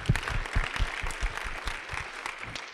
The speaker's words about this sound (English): Can we give him a round of applause before he does? Come on. That was amazing.